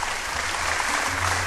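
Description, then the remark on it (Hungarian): An audience claps steadily, a dense wash of many hands at even loudness throughout, with no voices standing out above it. “Nagyon szervilis közönség ezért ezen tapsol.”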